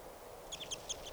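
A handful of short, high-pitched bird chirps come in quick, uneven succession from birds in a tree, fairly faint over a soft outdoor hiss, with no one talking.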